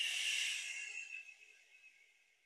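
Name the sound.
slow exhale of breath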